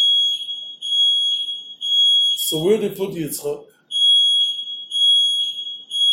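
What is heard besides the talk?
alarm system beeping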